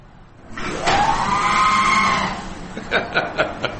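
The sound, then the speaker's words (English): A sliding door lets out a long, warbling, robot-like screech likened to Star Wars' R2-D2, for about two seconds, then a few sharp clacks and rattles as it comes to rest, fairly loud. “So again, the R2-D2 screaming door.”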